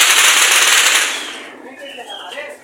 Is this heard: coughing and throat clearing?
no